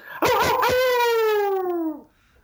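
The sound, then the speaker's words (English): A person imitates a hound dog's howl: one long, loud, sustained wail that starts with a rough burst and slowly slides down in pitch for about two seconds before cutting off. “So why don't you just go ahead and give me your best old hound dog howl.”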